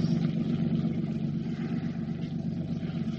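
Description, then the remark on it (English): The engine of a pleasure craft moving away drones steadily, a low, throbbing motor hum with a constant rhythm and a slight rougher layer above it, holding at an even loudness throughout with no voices. “The boat's going away, I think.”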